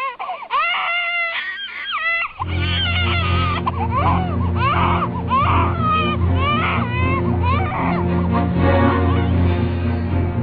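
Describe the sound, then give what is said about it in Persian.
A young child cries loudly in wavering, sobbing wails that continue throughout, spitting out biscuits while crying, with tears and a runny nose, and a low, steady rumbling background coming in after about two seconds. “دستش را به دهان و بینیش می مالید و در حالی که اشک و آب بینیش با هم قاطی شده بود، بیسکویت ها را با گریه بیرون داد.”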